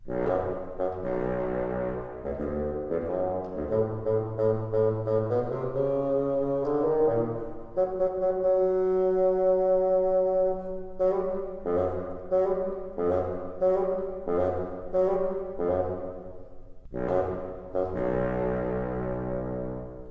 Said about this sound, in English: Peter's grandfather is represented by the bassoon. Can you hear his stern voice?